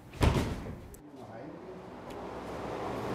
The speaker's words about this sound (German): Kopfschüttelnd öffnet der Gutsleiter nun die schwere Tür zum hinteren Bereich des Marstalls.